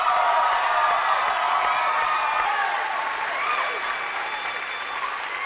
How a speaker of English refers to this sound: You got a whole bunch of super fans that came down to cheer you on today, too.